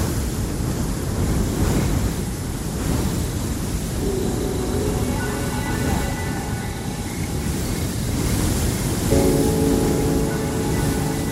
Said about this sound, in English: Even though the only thing keeping it afloat is the kids' imagination and the persistent phantom waves crashing in their ears.